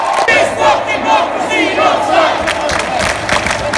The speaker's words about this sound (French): Au début des années 1970, William Burroughs préconisait non seulement l'usage d'infrasons dans les concerts pour faire vibrer le public, mais aussi la diffusion de sons d'émeutes pour créer des émeutes.